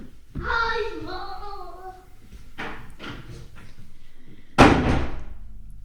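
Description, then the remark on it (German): A child's voice at the start, then a few soft knocks and bumps, and a door is shut with one loud slam near the end that rings briefly. “Und das war die Tür genommen.”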